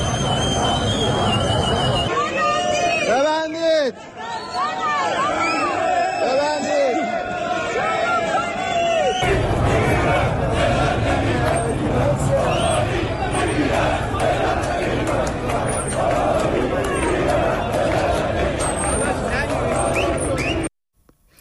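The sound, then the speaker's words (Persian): A large crowd of striking bazaar merchants in Iran, protesting a sharp rise in foreign currency and gold coin prices, chants protest slogans including "Death to the dictator" in loud, rhythmic unison, with shouting voices rising and falling over a constant roar of many people. A short pause breaks the chanting near the start. “بازاریان اعتصاب کننده در تجمعات خود شعارهای اعتراضی از جمله مرگ بر دیکتاتور سر دادند.”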